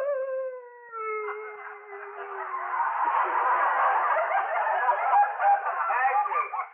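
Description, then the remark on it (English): Loud, drawn-out howling from a woman, starting as a clear wavering tone sliding downward, then swelling into a rough, strained wail lasting several seconds, with no talking. “But she howled it off.”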